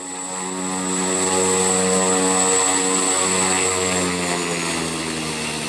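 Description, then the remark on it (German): A single-engine turboprop aircraft with a 675-horsepower turbine in the nose, seating nine passengers, roars as its engine is started, its propeller drone layered under a high turbine whine, swelling slightly and holding steady and loud throughout, with no voices. “Das ist ein einmotoriges Flugzeug. Es hat Platz für 9 Passagiere. Es hat eine Turbine vorne drin, sehr leistungsstark, 675 PS und kann bis zu 800 bis 1000 Kilo Fracht transportieren.”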